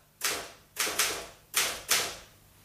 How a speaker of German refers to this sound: ist das hier Mr. Landgrens Schreibmaschine? Ja, eine Remington.